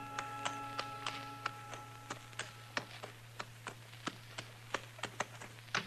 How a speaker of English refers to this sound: And that's when I saw the stranger riding up from the way I'd come. He was tall and thin. And his horse was taller and even thinner.